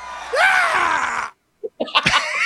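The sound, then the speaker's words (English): A person imitates a loud, rising scream that holds for about a second, then breaks off into silence before short choppy vocal bursts follow. “But had he used a line like that in the modern era, it would have totally sunk him the way Green's scream did for him.”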